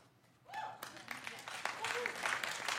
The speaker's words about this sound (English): I'm not sure that was worth applauding.